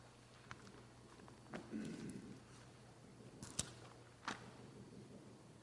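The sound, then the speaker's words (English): A woodpecker pecking: a handful of sharp, irregular wooden taps spaced a second or so apart, fairly quiet over a low steady hum and faint murmuring. “Someone must be locked somewhere in a cupboard. Woodpecker.”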